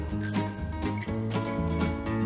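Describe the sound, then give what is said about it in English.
A bicycle bell dings repeatedly in a quick rhythmic pattern, mixed into a busy, loud musical backing with sustained tones and no voices. “It's a sound we all know well, the ding dong ding of the bicycle bell.”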